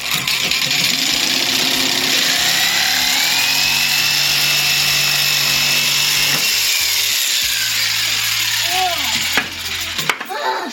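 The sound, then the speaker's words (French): A jigsaw runs steadily through wood along a marked line for about ten seconds, a loud, continuous buzzing whine with a shifting high tone, then winds down and stops near the end. “On pose le sabot. Tu regardes ta lame? Est-ce qu'elle est bien mise?”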